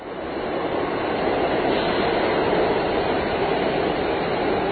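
A subway train roars into a station, a loud, steady rumble and rush of wheels on track that holds evenly for several seconds, with no voices.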